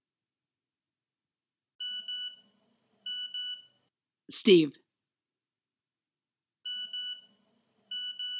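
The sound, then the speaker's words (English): Short bursts of shrill electronic cell phone alert beeps repeat at steady intervals, fairly loud, with a single brief spoken word in the gap between them. “Cell phones.”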